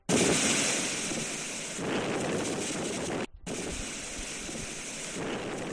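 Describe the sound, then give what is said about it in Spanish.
Strong wind gusts roar continuously into the microphone while waves crash against the Paseo Nuevo seafront in San Sebastián on the Basque coast, a loud, dense rumble with a brief dropout midway before the storm noise resumes. “Pues sí, eso que escuchan son las fuertes rachas de viento y las olas, en este caso contra el Paseo Nuevo de San Sebastián.”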